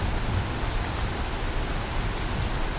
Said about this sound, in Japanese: 土砂降りの雨がやがてパラパラと踊り出すまで、もう少し。